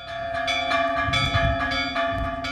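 Church bells peal in a steady, overlapping ringing, summoning residents to evening mass in a small town, with repeated strikes layered over a lingering metallic hum. The sound is fairly loud and full, with a low rumble of outdoor ambience underneath and no voices.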